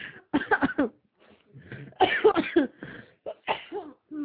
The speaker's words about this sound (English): And I'm coughing up my organs now.